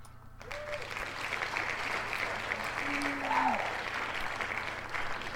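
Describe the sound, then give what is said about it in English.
A steady wash of crowd applause with cheering, dense clapping sustained at an even level for about five seconds, with a couple of faint whistle-like tones rising above the noise. “Let me do a little cheer.”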